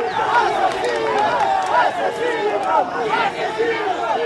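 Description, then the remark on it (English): A pro-Zelaya protest crowd at a rally in Honduras shouting the chant "Assassins, assassins" and demanding justice, many voices yelling together in a dense, continuous roar that stays loud throughout, with overlapping cries rising and falling. “Crowds shouted, "Assassins, assassins," and demanded justice.”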